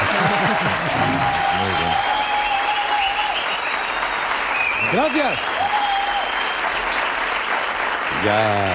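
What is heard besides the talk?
studio audience applause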